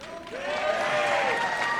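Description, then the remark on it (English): A crowd at a Donald Trump event applauds to vote on the nicknames 'Sleepy Joe' and 'Crooked Joe'. It is a steady, dense wash of clapping that swells slightly and holds loud for a couple of seconds, with some voices cheering through it. “You applaud if you like it.”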